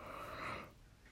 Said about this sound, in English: Oh my god, I'm yawning because I'm actually tired.